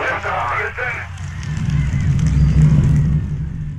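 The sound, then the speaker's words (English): The rocket of the mission that took Buzz Aldrin and Neil Armstrong to the moon lifts off with a deep, crackling roar that swells and holds steady for a couple of seconds before easing off, following a brief burst of muffled voices at the start. “That was liftoff, and 50 years ago this weekend, Buzz Aldrin and Neil Armstrong became the first humans to set foot on the moon.”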